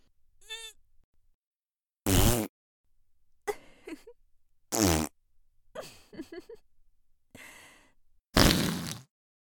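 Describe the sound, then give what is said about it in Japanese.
Three loud, brassy farts, each about half a second long, spaced a few seconds apart, with soft breathy sighs and moaning vocal sounds in between. “ケツ穴グッパーって開いておならぶっこくの最高。”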